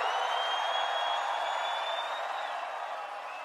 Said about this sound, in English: Are you fucking ready? Is the world ready for this photo? On the count of three, one, two, three, everybody scream!